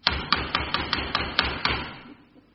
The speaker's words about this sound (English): It might be her, mightn't it? Yeah. Sounds like her knock.